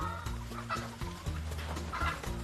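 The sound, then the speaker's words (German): Many hens cluck and murmur together in a henhouse where they lay their eggs, a dense overlapping chorus with short bursts at a steady busy pace over a low, constant hum. “Hier drin legen die Hühner also ihre Eier.”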